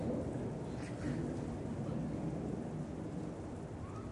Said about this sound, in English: Listen to the thunder of an aeroplane, of a jet, without any resistance.